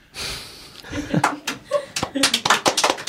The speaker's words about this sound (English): A little round of applause there in the studio. Excellent.